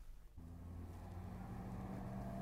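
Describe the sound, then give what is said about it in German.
A car's engine kicks in with a deep, steady rumble that grows slightly louder as the car, flagged down on a street by people seeking help, draws near and slows, with no voices present. “hilfesuchend ein Auto anhielt.”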